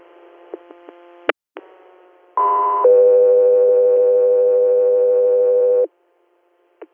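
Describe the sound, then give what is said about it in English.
Radio dispatch alert tones for an interhospital patient transfer from Corning, New York, to Sayre, Pennsylvania: after a few sharp clicks, a brief higher steady tone jumps straight into a longer, lower sustained tone lasting about three seconds, loud and clean, then cuts off. “Scott 3 Air, stand by for tones.”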